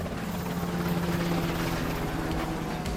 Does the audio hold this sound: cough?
no